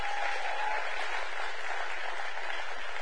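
An audience claps their hands for tithes and offerings in a dense, steady burst of applause that fills the whole stretch, sustained and even without breaks, with no voices standing out.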